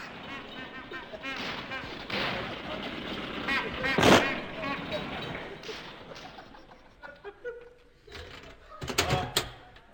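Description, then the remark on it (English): A car driven by a chauffeur rattles up loudly, its engine churning steadily, with a sharp bang around the middle and another burst of clattering noise as it comes to a stop outside a door. “The car's ready.”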